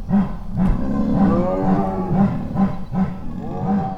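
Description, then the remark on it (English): A chorus of big cats chuffing at night, recorded on microphones set up outside, with steady low, rhythmic pulses overlapping with deeper moaning, rumbling calls from several animals, fairly loud and continuous with no talking. “It's a kind of a chuffing chorus that they do, and they won't do it around people.”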